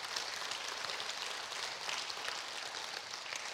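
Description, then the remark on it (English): An audience applauds steadily for several seconds, a dense, even wash of many hands clapping at once with no voices rising above it, for one of their own who has just graduated as a police officer from Eastern Kentucky. “Now, just to be clear, you're clapping for what God did through him, right?”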